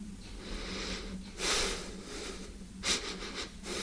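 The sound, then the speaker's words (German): Slow, deep, very regular breathing of a soldier who has broken off speaking, two distinct airy inhalations rising over a low steady hum, with no one speaking. “Der Soldat bricht ab, atmet sehr tief und sehr regelmäßig.”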